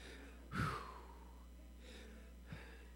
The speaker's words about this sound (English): I'm breathing like I just ran a couple miles, so hang in there.